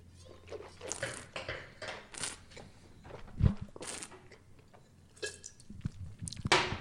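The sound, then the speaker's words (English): Someone takes a swig of Riesling wine: a run of wet slurping and swallowing mouth sounds with soft clicks and hisses, one heavier low thump partway through, no talking. “All right, I'm going to take a swig.”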